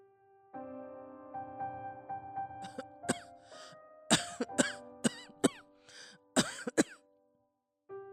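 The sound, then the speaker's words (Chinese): An elderly woman, a grandmother with a cold, coughs repeatedly in a room at home, starting with light throat-clearing hacks that build into harsher, louder coughing fits in quick succession, over a faint steady background hum. “就听到房里传来阿嬷的咳嗽声，而且越咳越厉害。”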